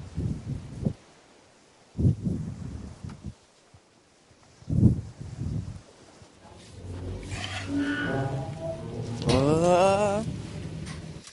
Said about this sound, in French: Oula, oula, mais qu'est-ce qui se passe? Ah oui, ça doit être le passage où Dieu fait souffler un grand vent sur la terre pour faire descendre le niveau de l'eau, car il se souvenait de nous et de Noé.